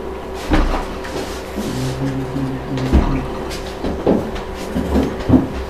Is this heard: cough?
no